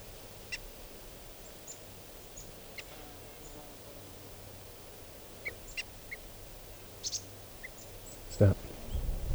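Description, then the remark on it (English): Decoy birds give short, sharp alarm calls while an osprey flies around, scattered and fairly faint, over a low steady background rumble, with a louder burst near the end. “These are the alarm calls of the decoys.”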